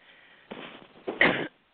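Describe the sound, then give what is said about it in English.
Two short, rough coughs from a person getting over flu, a softer one followed by a louder, harsher one, with no talking around them. “I'm just getting over flu, so you have to excuse my little cough here.”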